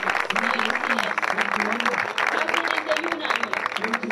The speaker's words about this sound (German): Wenn Sie hören können, dann sagen Sie mir bitte, was Sie jetzt genau hören. Ein Applaus!